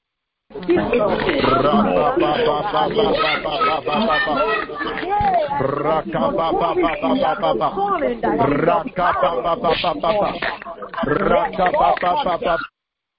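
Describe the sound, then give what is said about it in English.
A large crowd of worshippers at a prayer gathering roars together in imitation of lions, a loud, dense wall of overlapping growling shouts that swells and holds for about twelve seconds before cutting off. “Like a lion, roar like a lion tonight, roar like a lion.”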